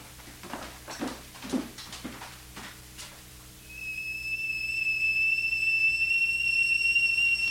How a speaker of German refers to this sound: Das Wasser kocht. Ich mache jetzt den Kaffee.